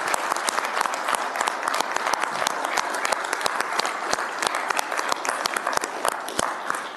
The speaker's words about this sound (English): A big round of applause, and maybe he'll play this back and he can hear it, but he needs to know that he's loved in this city.